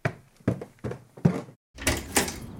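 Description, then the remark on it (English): A series of dull thumps, four in quick succession, then a brief pause before a brighter, rougher rush of door noise as a front door is pulled open. No one speaks. “I'm at the front door. Can you let me in?”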